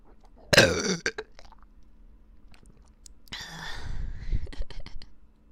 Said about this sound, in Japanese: 中にゲップ入ってます。両耳からゲップ攻めされちゃうよ。みんな聞いてみてね。